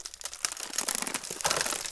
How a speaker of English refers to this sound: Oh, hell. Something's rattling in the bushes.